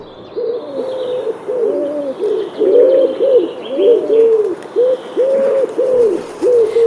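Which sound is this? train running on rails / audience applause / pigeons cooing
pigeons cooing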